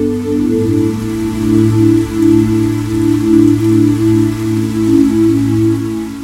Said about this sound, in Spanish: Qual repique de hojalata lenta, alegre se ha acercado. Suena la lluvia. La escucho de puntillas, susurrando.